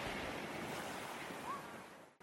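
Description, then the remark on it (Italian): A steady, loud roar of wind and rough sea waves breaking along the shore on a windy day fills the whole recording, with continuous gusty hiss and no voices, briefly cutting out near the end. “Ogni tanto ci devono essere delle giornate più ventose.”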